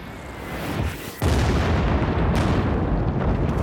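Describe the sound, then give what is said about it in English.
A dense, continuous barrage of heavy explosions from a night B-52 bombing raid over Cambodia on March 18th, with 48 bombers dropping some 2,400 tons; deep booms pile on top of one another without pause, swelling and then jumping louder into a sustained roaring wall of blasts. “The bombers drop a payload of some 2,400 tons.”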